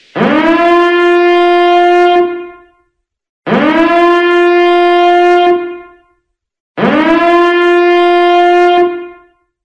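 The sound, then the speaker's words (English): An air raid siren sounds three loud blasts, each swooping up quickly to a steady, buzzy tone that holds for about two seconds before dying away, separated by brief silences. “I'm wondering if you can recognize mandatory evacuation, air raid, or land bombing sirens.”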